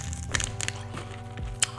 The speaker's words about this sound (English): It's the crunches.